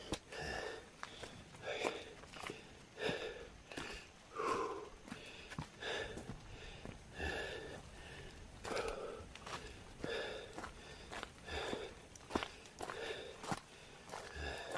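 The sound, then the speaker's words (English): Heavy, rhythmic panting breaths with occasional strained grunts over steady crunching footsteps on a trail, as a person hikes uphill. “Now you hear me panting and grunting a little bit here.”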